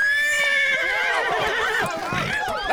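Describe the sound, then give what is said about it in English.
A horse with a woman sitting on it neighs and whinnies loudly, a long shrill call with a wavering pitch that breaks into shaky trills, with faint hoof clatter underneath. “Now come down from that horse immediately.”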